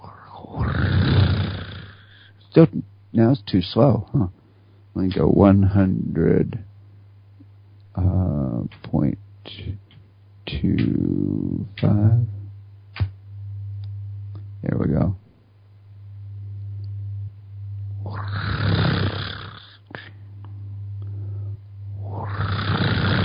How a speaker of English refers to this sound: So kitty cats purring are just putting you into a deep delta brainwave state. I really like petting my kitty cat in time with the purr.